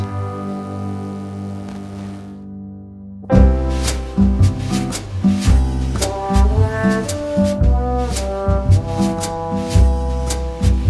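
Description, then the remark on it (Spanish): A song with voice and guitar, played from a CD, opens on a soft, sustained guitar chord, then after about three seconds a full band comes in loudly with a steady drum beat and strummed guitar, its rhythm driving and even. “No podemos contar con voz y guitarra en directo, pero sí tenemos música en CD y suena así.”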